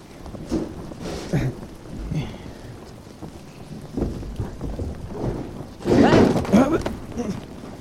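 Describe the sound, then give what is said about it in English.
Steady rain falls on a crumbling, rotten ruin, hissing throughout while low thunder rumbles in waves, building to a loud, crackling thunderclap near the end before rolling off. “Yeah, well, that'd be easier if I wasn't digging through a crumbling, rotten ruin in the rain.”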